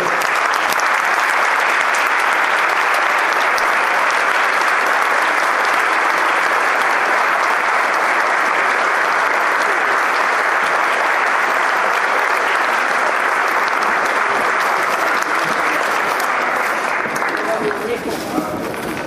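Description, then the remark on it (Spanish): Sustained applause from a large audience for the guest speakers at a public talk, loud and dense, continuing steadily for nearly twenty seconds before tapering off at the very end. “Gracias, el aplauso para ellos.”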